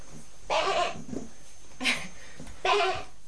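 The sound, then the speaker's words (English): Three wavering, bleat-like calls, one long, one brief and one longer, from a person imitating a sheep, with short pauses between them. “Can you be a sheep?”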